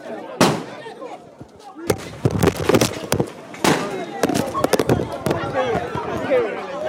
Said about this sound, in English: Then out of nowhere, a group of masked men, they were armed, they arrived and they started shooting. And I should warn listeners that what you're about to hear is gunfire.